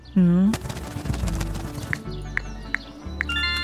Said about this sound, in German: Ach, Mist. Was zum grünen Papagei ist denn mit dir los? Wieso schmeißt du denn dein Handy runter?